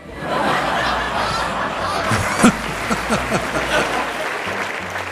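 audience cheering and applause

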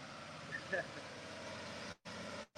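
truck passing by outside

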